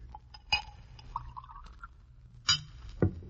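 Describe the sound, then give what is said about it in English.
A drink is poured into a glass, with a short gurgling fill between a few sharp clinks of glass on glass, fairly quiet, with no one talking. “Pour me a drink.”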